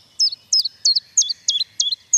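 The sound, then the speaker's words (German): A common chiffchaff sings its steady two-note song, about seven clear, high chirps repeated at an even rhythm, distinct with no voices over it. “Also den Kuckuck kennt jeder, aber dann gibt es auch den Zilpzalp.”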